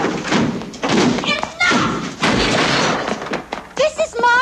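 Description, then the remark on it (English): Heavy, repeated thuds as soldiers batter down a door, loud, a rough series of blows with crashing impacts, while voices shout over the pounding. “Stepping into the corridor, Panthea sees soldiers battering down a door.”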